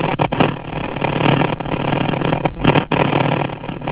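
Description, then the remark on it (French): A motorcycle engine, with the caller riding the motorcycle, drones steadily through a narrow, muffled telephone line, a loud, rough continuous roar with a few brief dips, and no voices. “Oui, il y a un bruit, monsieur. C'est votre téléphone est sous l'eau, pas l'eau, ben vous êtes à moto.”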